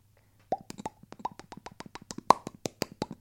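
A goldfish's watery plops and bubble pops, about twenty quick, irregular blips in close succession, clear with no talking, after a brief quiet start.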